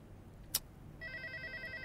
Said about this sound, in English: Answer the phone